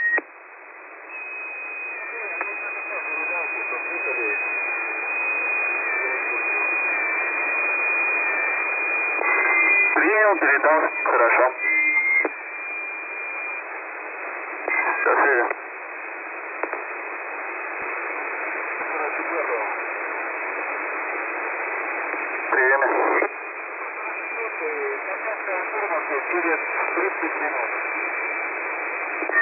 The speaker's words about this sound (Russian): Я слышал, вы вызывали, но я не мог разобрать информацию. Слышал вас на единицу с помехами, очень плохо, прием.